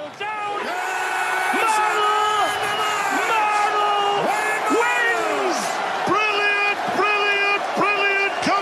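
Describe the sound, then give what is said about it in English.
A loud, sustained roar of cheering and yelling from about 5,000 people cheering a player's name, with shouted whoops rising and falling above the din throughout, unbroken. “They're like 5,000 people cheering your name.”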